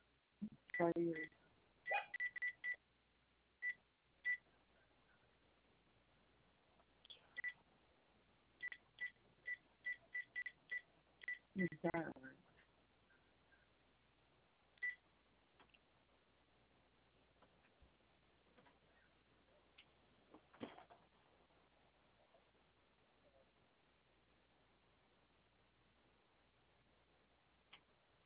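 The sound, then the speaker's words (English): Telephone keypad tones beep in quick clusters over a narrow phone line as a number is dialed, followed by sparser, evenly spaced busy-signal tones, with faint voices in the background. “I get a dial tone, but it dials and then it just goes to a busy signal.”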